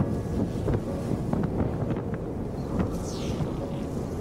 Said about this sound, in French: Je ne sens plus mes doigts. Le vent me glace le visage.